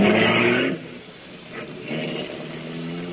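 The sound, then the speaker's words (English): A voice imitates a taxi engine revving and driving off: a loud, buzzy growl that drops off after a moment, then rises again into a steadier motor-like drone, alone. “Well, Miss Bankhead, it's a pleasure for Maxie the taxi to be driving you again, huh?”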